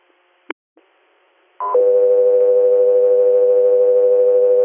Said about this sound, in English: Guthrie Air, standby for tones.